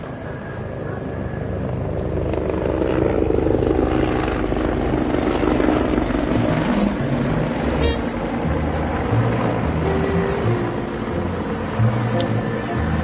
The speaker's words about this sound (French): Tout d'un coup, l'agitation, c'est très drôle. Il y a trois hélicoptères qui ont tourné autour du site et qui sont en train de se poser